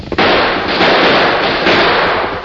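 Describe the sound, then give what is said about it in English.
A loud gunshot cracks out sharply and gives way to a sustained, harsh roar of crackling noise that fills the rest of the moment, with no voices. “Fella, get shot in the arm.”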